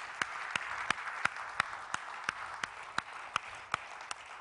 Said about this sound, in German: Und deshalb dienen sie uns auch im Cafédienst und wir geben auch dem Café-Team einen kräftigen Applaus.